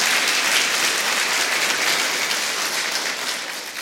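A crowd applauds steadily, a dense wash of many hands clapping at once, loud and sustained for the full few seconds with a slight fade toward the end. No voices are heard.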